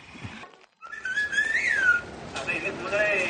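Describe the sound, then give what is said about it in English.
A sentence rendered in whistled speech: a run of sliding, rising and falling whistle tones that trace the rhythm of spoken words, fairly loud, with a brief pause near the start. “This is the same sentence whistled, and this is the same sentence spoken.”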